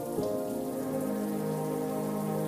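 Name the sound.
water drops falling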